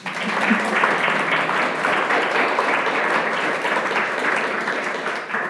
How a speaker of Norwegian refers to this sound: Så jeg foreslår vi starter med å gi statsråden en varm applaus.